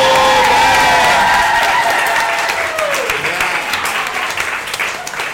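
A crowd claps steadily for about five seconds, dense and loud, with a few whoops and cheering voices rising over the applause early on before the clapping thins slightly.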